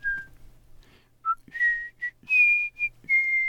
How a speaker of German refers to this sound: Während sie geht, pfeift sie ein Liedchen und schlenkert den Eimer.